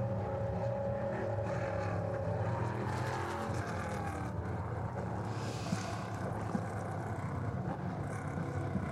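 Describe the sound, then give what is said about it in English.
A steady, loud drone of several race car engines rumbling at low, even speed as the cars circulate behind the safety car during an IMSA race, the layered motors blending into one continuous growl with no voices. “Still circulating behind the safety car.”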